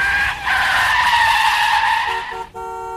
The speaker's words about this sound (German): Und ja, es ist Frau Delius, die Postbotin. Mit ihrem knallgelben Auto rauscht sie den Hügel zum Bauernhof unserer beiden Freunde herunter und kommt mit quietschenden Reifen vor ihrem Briefkasten zum Stehen.